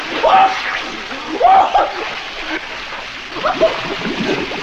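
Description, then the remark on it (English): A loud splash as someone dives into water, followed by more churning splashes spaced a second or two apart, fairly harsh. “Okay, I'll dive down, and you stay up here and tread water.”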